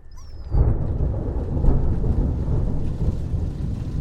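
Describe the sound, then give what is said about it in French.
A night thunderstorm with a deep roll of thunder that swells suddenly and rumbles on steadily, loud, over a background wash of rain. No one speaks. “Trois semaines plus tard, par une nuit d'orage,”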